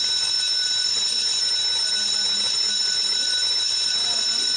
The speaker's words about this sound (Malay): Kena kuat sikit ya. Loceng kuat.